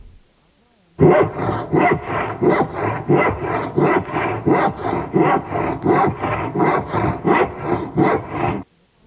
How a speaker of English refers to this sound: The saw cutting wood for this sound.